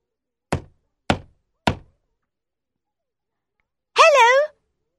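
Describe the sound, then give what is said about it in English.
Little Red Riding Hood knocks on the wooden door of Grandma's house: three firm, evenly spaced knocks, followed after a short pause by a brief spoken voice. “Little Red Riding Hood knocks on the door of Grandma's house.”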